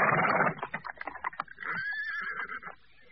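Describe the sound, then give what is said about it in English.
At midnight in a yard with coaches standing still, a horse stamps and paws its hooves on hard, frosty cobblestones in a quick run of sharp knocks, then lets out a loud, drawn-out whinny. “The doors remained closed, the coaches stood still, and the horses pawed at the frosty cobble.”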